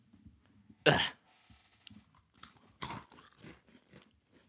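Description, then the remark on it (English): Someone bites into a small, finger-shaped crunchy malt biscuit: two loud, sharp crunches about two seconds apart, followed by softer crackling chews with no talking. “That's actually one of the most boring things I've ever put in my mouth.”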